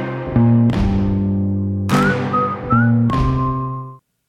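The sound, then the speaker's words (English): A whistled melody of a few sustained, sliding notes rides over full band music with strummed chords and steady bass, clear and upfront in the mix, ending abruptly. “Oh, the whistling. I love it”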